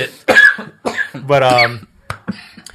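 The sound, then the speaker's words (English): A man chokes after laughing hard at his own joke: a loud fit of choking coughs, a few harsh bursts, a strained, voiced gasping cough in the middle, then two short sharp coughs trailing off. “By the way, he laughed so hard at his own joke, he choked himself. I choked on that.”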